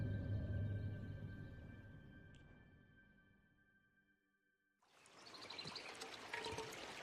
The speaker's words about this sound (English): The guide fills his water bottle and looks up as they approach.